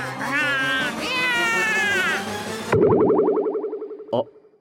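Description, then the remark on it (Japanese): A person imitates a cat that has started to threaten, letting out loud, drawn-out wavering meows, then a rapid pulsing yowl that trails off, capped by one short sharp burst. “威嚇し始めた！もう猫だ！ただの猫だ！”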